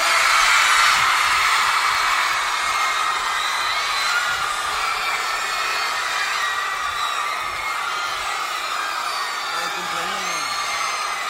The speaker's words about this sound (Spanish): Vamos a hacer una cosa, las mujeres, quédense gritando para que le rompan el tímpano al corillo. ¡Las mujeres!